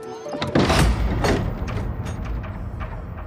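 A room door creaks open with a low rumbling thud, followed by shuffling as people go in and a second heavier knock as it swings shut, with a dull, muffled room tone.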